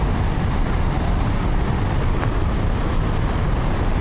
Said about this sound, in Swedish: Uppleva hur det är om man närmar sig forsen ännu mer. Då får vi gå upp här för en brantsluttning. Och man hör ju här vattenmassorna. Nu ser vi Handölsforsen också.